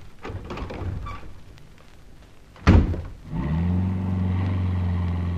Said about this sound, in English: Hurry! Hurry! I've got the car started.